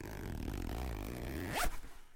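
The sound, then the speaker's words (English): The zip of a Bits by B bag, bought at the Cargo Cat in Sheffield, is pulled open in one continuous rasping stroke, fairly loud, ending with a brief sharp flourish before the sound cuts off. “This is what the zip sounds like.”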